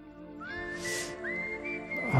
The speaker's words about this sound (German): Es ist gerade live gepfiffen